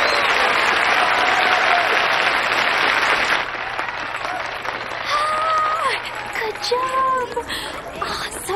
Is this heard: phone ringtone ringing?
no